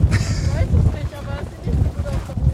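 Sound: strong wind gusting outdoors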